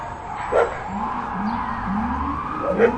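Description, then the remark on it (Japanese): Sirens of three police cars wail steadily, their rising tones repeating, while a dog barks a couple of times along with the sirens over faint outdoor background noise. “パトカーが3台。”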